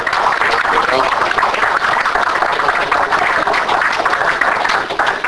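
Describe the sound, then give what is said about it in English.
An audience applauds a speaker after a talk, a dense wash of many hands clapping that stays loud and even from start to finish, with no clear voices above it. “Okay, so round of applause.”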